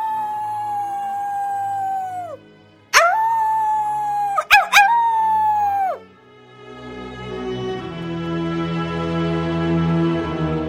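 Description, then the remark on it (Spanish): A hungry wolf howls in long, sustained, wavering tones that rise sharply and slowly fall, a few calls in succession, then fade into a low, rumbling musical drone; snow covers the fields of Umbria near Gubbio. “El lobo, hambriento, ataca todo lo que se pone a su alcance.”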